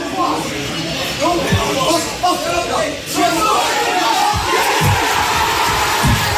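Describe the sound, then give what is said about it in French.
A dense crowd of football fans roars and cheers inside the terminal of Dublin Airport as a cross is played in a match, a loud, continuous wash of many voices with swells of excitement and scattered shouts throughout. “L'aéroport de Dublin s'est transformé en terrain de foot, en stade de foot, incroyable.”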